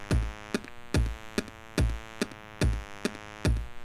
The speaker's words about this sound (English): Okay, so we got that nicely synced up, and you can hear the clock click through my microphone.